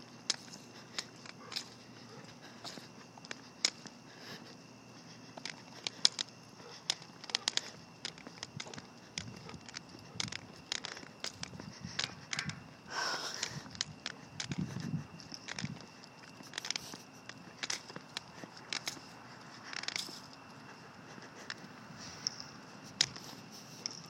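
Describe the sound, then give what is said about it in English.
A cane tip clunks against the ground again and again during an outdoor walk, sharp knocking taps in a loose, uneven rhythm over a faint steady hum, with no one speaking. “Well, I don't get to take my sports car with me, but so you'll have to deal with its loud, clunkety cane tip that I have.”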